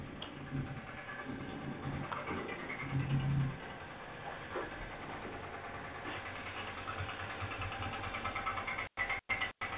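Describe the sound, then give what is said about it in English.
A bus engine rumbles steadily, with a low idling drone and road noise filling the whole stretch. Near the end the sound cuts out briefly several times. “I'm on the bus.”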